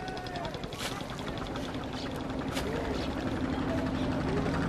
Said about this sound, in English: You can hear all the boats out on the river, ferrying tourists.